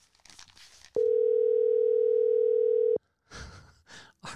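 telephone ringing

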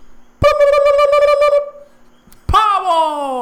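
turkey gobbling

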